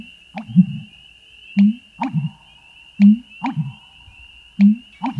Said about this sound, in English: The call of the American bittern, more your style?